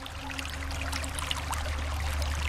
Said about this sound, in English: It's a shallow stream just a few yards wide. The water, milky with silt, burbles over flat brown stones.